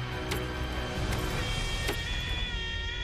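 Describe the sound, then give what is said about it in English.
A truck engine fails to start at night in the Kootenai National Forest, 5 miles from the main road: three sharp clicks come a little under a second apart over a steady low hum, and the engine never catches or turns over. “The engine won't start, That's something you don't want when you're miles away from the main road.”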